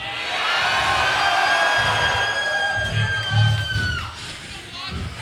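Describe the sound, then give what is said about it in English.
A large live show crowd in Melbourne roars and whoops continuously, with high shouts and screams rising above a dense wash of cheering that stays loud throughout. “Every time we come out to Melbourne, there's usually people crowd surfing.”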